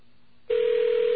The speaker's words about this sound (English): Okay, that is a phone ringing. Let's take a good listen to that. All that noise is the BAI connection. And that's what's basically known as static on the line, as an electronic ring. Also known as ESS, electronic switching system